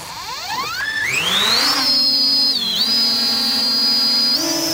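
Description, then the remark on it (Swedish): A small Swedish Armed Forces drone of the model called Skatan flies, its engine whining, pitch climbing steeply in the first two seconds and then holding a steady high buzz with slight dips and a final rise. No voices. “Just den här modellen som hörs i bakgrunden går under namnet Skatan.”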